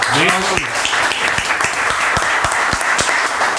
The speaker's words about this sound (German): Applaus an euch.